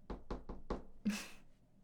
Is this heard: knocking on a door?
yes